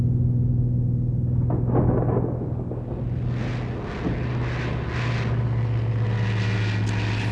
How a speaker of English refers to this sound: Of course, statistically, when encountering weather aloft, the odds are in your favor in a smaller plane.